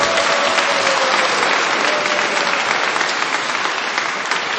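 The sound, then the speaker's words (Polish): Sustained applause from a large audience for Bishop Antoni Długosz, a dense, steady clatter of many hands clapping loudly and continuously throughout, with no voices rising above it. “Pani ksiądz biskup Antoni Długosz, brawa gorące.”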